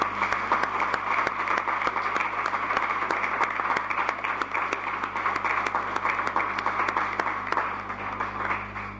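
Sustained applause from a crowd, dense overlapping claps at a steady, fairly loud level throughout, with a low constant hum underneath and no talking.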